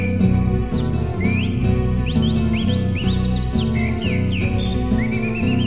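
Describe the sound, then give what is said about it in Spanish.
A calandria mockingbird's whistling song, quick rising and falling phrases repeating throughout, heard over loud, steady instrumental music. “Silba la calandria.”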